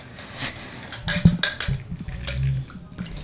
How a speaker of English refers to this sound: Now, can I have a glass? Sure. Maybe throw a little ice on it. Whoops. We have some issues here. I love those big ice cubes, though. Those are great.